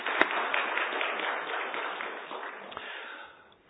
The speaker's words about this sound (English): So rather than say, give us more, what I want to say is thank you. So let me just give you guys a round of applause.